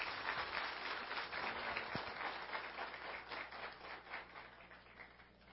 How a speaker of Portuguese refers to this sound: Aplausos a ….